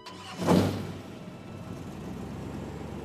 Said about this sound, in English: After firing up the engine and making our way back towards home, I gave in and I broke the silence.